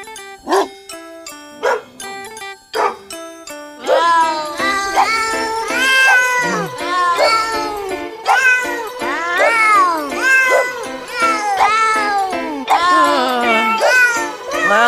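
Cat meows pitched to carry a melody in a novelty song, sparse plucked notes at first, then a steady musical backing with rising and falling meows repeated in rhythm throughout, loud and close.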